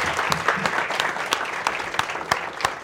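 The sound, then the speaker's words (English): An audience claps steadily for everyone who took part, a dense mix of many hands with sharp individual claps popping out of the wash, sustained and fairly loud with no one speaking. “Firstly, thank you guys so much for the participation and the big round of applause to everyone.”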